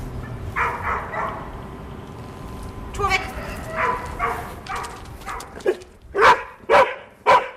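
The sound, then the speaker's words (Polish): A rescue dog barks repeatedly and insistently, signalling that it has found a buried person, with softer yips and whines first, then a run of four loud, sharp barks near the end. “oczekujemy tak długo, aż pies sam wyzwoli z siebie oznaczanie, jakim jest szczekanie”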